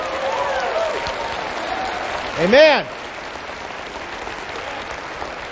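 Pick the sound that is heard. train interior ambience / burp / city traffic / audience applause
audience applause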